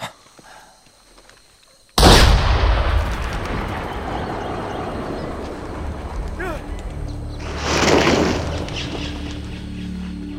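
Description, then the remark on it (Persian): After a quiet moment, a single loud gunshot cracks out, followed by a long rumbling roar that lingers and swells again briefly before fading. “یه تیر شلیک کن.”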